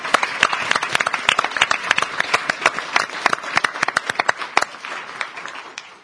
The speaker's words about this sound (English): But a big hand of applause.